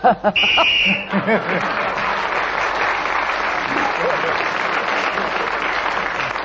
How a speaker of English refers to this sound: Stanley, at the end of that round, you've got 2 points, because you got one for speaking as the whistle went.